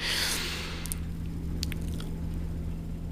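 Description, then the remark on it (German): A steady low hum with a buzzing edge drones on throughout from water pipes after the hot water tap is turned on, while a brief rush of hissing water fades out at the start and faint clicks sound later. “den Wasserhahn für heißes Wasser aufdreht, dann fangen die Rohre an zu brummen und zu summen”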